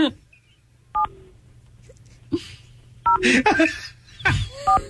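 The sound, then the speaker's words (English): Telephone keypad tones beep slowly one at a time as a man dials a phone number, about 10 seconds between each button press, while people talk and laugh over them. “I mean, listen to him dial. You're right. It's like 10 seconds in between each button.”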